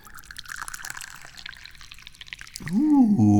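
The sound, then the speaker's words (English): Dahong Pao tea is poured into a cup in a steady trickle for a couple of seconds, followed by a louder, rising tonal sound near the end. “Well, we start pouring the tea.”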